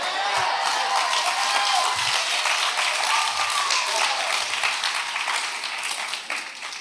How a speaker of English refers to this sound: The best part is seeing the faces going, why are they clapping? Why, who, what just happened?